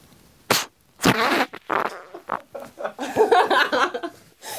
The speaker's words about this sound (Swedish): Hon ska alltså andas in och blåsa ut. Jag är tyst från och med nu så ska vi höra om den här första fittprutten.